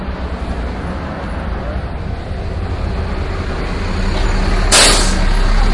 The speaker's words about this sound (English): That was a bus. Made you jump too. I know, and it scared me.